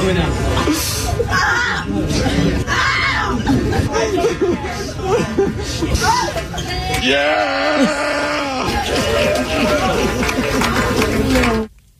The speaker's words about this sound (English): So people in the restaurant were cheering when they pulled this girl who was stuck in the high chair out. Here's some audio.